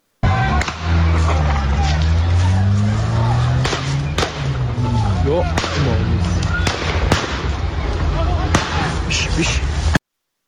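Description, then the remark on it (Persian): Sharp, loud gunshot cracks ring out irregularly, about eight in all, over a constant din of crowd voices and shouting outdoors, in front of Islamic Azad University, Tehran North Branch, where parents of students held inside have gathered. “بشنویم صدای تیراندازی رو.”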